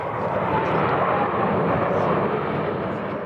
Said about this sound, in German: 3-mal ziehen die Jets in perfekter Formation über uns hinweg.